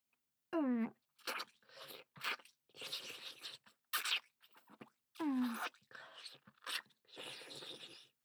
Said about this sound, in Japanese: 何やら。キツネが得意げにチンコを舐めてアピールをしているが